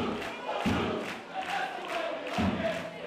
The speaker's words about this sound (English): NCFC loyalists showered the crowd with their favorite game day chants.